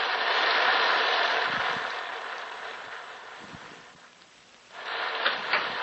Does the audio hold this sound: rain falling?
yes